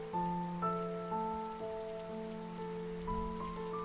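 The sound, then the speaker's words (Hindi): Steady rain, falling after thunder, patters down without a break, a soft even hiss laid under sustained, gentle tones. No one speaks. “गरज रहे बादल अब बरसने लग गए थे कि ये हो कह गया अचानक।”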